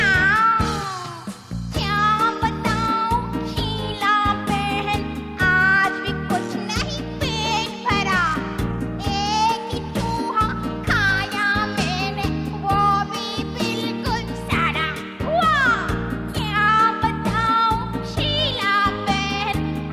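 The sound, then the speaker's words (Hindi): Repeated cat meows with rising and falling pitch sound over a continuous, upbeat musical backing, recurring throughout and fairly prominent in the mix. “बिल्ली मासी क्या है, कहो कहां से आई हो, क्यों तंग करते हो, कितने चूहे मारे तुमने, कितने खाकर आई हो।”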